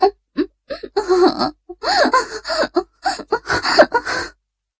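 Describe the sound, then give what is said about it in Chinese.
Heavy, ragged panting and sharp gasps from two exhausted people lying in bed come in quick irregular bursts, some breathy and some voiced, fairly loud, with brief pauses between breaths and no words spoken. “在一片喘息声中，两人精疲力尽地瘫软在床上。”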